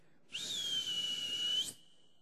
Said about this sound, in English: And then he whistled.